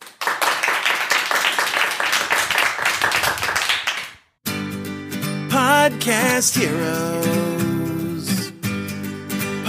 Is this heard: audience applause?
yes